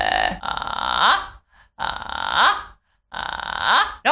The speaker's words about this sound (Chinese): 好，还有另外一种方法啊，是先找到气泡音的发声位置，然后通过气泡音转到你的发声，像这样。